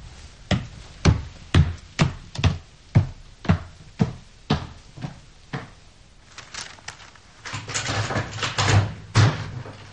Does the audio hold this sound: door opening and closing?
yes